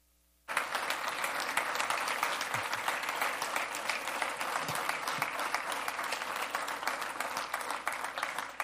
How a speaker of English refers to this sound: Well, I'm going to introduce the star preacher with these stars that are hanging right now. Would you give a round of applause for my dad,